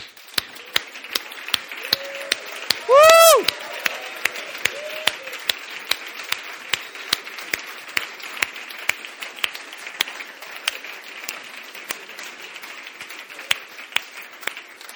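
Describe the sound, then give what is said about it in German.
Steady applause from an audience for the mothers, who are asked to stand, on Mother's Day; a dense patter of many hands clapping throughout, with a brief loud whistle-like tonal burst near the start and no speech. “Ich möchte gerne alle Mütter aufstehen und ihnen einen herzlichen Applaus geben.”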